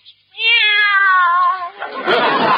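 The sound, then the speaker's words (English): A single long, loud meow from a cat named Minerva, wavering slightly in pitch for over a second, then trailing into a breathy, hissy noise. “Take our cat Minerva.”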